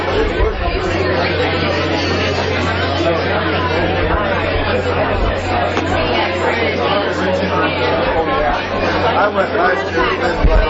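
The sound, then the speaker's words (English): A large crowd chatters continuously, many overlapping voices blending into a dense, steady babble with no single voice standing out, accompanied by a constant low hum underneath. “Oh, huge crowd, yes.”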